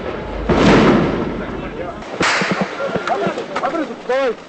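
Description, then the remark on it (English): A heavy blast rumbles out, then a second explosion and a series of sharp, scattered cracks of gunfire, with shouting voices rising over the chaos, during a battle at a school in the southern Russian town of Beslan, where Chechen rebels were holding hostages. “There were explosions and a lot of gunfire earlier today.”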